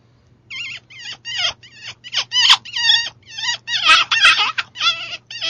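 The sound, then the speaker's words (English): A Primos Catnip bite-down predator call squeaks out a quick run of high, warbling, bird-like chirps, fairly loud, with short pauses between bursts over a faint low hum. “A bite down, one example of a bite down would be a Primos catnip. And let me do a few things on a Primos catnip real quick.”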